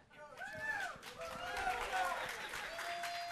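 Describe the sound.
An audience claps steadily in a dense, even patter for a few seconds, with voices calling out over the applause.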